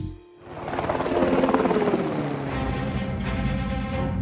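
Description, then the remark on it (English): An airplane engine roars up after a brief quiet moment as the plane gets set for takeoff, then holds a loud, steady rumble with a rapid throbbing pulse, no voices over it. “All right, Bruce, you're all set for takeoff. Champ City is lucky we've got a plane as fast as you to take on this mission.”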